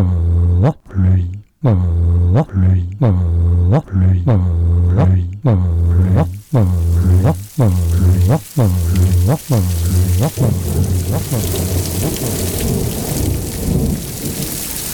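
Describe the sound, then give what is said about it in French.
A run of evenly spaced, sung-sounding tones, sung for rain, gives way after about ten seconds to a steady, loud downpour of heavy rain, hissing on to the end. “Il faut de la pluie, de la vraie pluie.”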